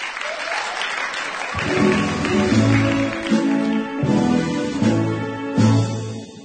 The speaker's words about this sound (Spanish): ¡Un aplauso!